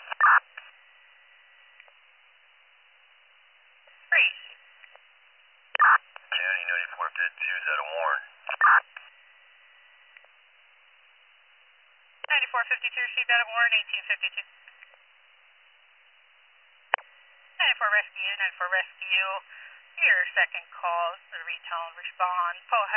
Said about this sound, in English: Hey, can you do me a favor and tone it out with our general tones and put out a second call as well?